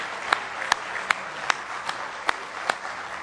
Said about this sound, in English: You can beat that hand clap by a big margin. Let's give him one more. Really, really good hand clap of praise in the house of the Lord.